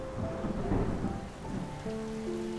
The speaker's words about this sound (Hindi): उसका वेट करते करते हमें 7 बज गए और धीमी धीमी बारिश शुरू होने लगी।